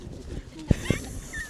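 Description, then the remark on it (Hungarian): A puppy whimpers into the microphone, two short soft yelps in quick succession followed by a faint, high thin whine against a quiet, murmuring background. “Épp egy kiskutya beszél vele a mikrofonba.”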